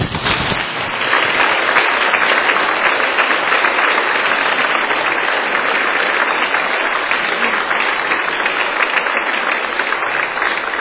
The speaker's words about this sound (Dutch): We danken je vandaag voor het orgelspel van de afgelopen jaren. Dat doen we uiteraard met bloemen. Die zal ik zo pakken. Dat doen we met een hand. En die geef ik je als ik het papier aan de kant leg. En dat doen we met applaus. En dat kan nu al.